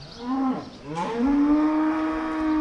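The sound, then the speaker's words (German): Dairy cows mooing in a barn on a farm with 170 cows plus young stock, a short low moo followed by a long, drawn-out bellow that holds steady to the end, with no voices present. “Der Betrieb mit seinen 170 Kühen plus Nachzucht hat die Milchkrise überstanden, weil er ein tragfähiges zweites Standbein hat,”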